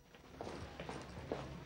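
Soft footsteps of one person walking alone down a corridor past a bank of lockers, at an unhurried, steady pace, about four or five steps in a row, fairly quiet against a low background hum with no one speaking.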